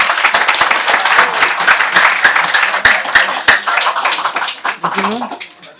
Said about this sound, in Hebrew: בכבוד, חסידי חב"ד היקרים, בכבוד, תגידו לנו החידוש. כפיים תיתנו להם.